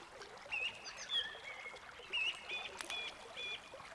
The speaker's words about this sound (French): Ça s'en vient, les oiseaux en premier.